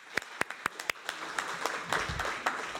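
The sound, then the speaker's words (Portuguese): Applause from a crowd for the speakers of the first panel as they leave the table: a few sharp, evenly spaced claps stand out at first, then blend into a steady wash of many hands clapping together at moderate volume. “Peço a esta mesa, às pessoas que estavam nesta primeira mesa, que saiam, e peço mais uma salva de palmas, que foram ótimas.”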